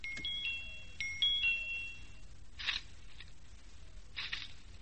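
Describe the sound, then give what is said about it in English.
A tiny, high-pitched doorbell, its button pushed with the tip of a pencil through cage bars, chimes twice in quick succession, thin tinkly two-note rings that fade out, followed by a couple of soft scuffing rustles; no one speaks. “Now, let's see if I can get the tip through the bars and against the doorbell button.”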